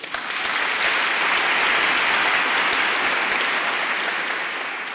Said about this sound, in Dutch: Applaus.